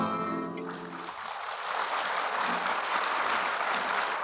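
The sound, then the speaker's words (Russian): A held musical tone fades out in the first second as a concert audience bursts into steady, dense applause that keeps going at an even, loud level to the end. “Если не хочется аплодировать, не нужно, потому что я по лицам пойму, нравится вам или нет, и буду тогда менять репертуар.”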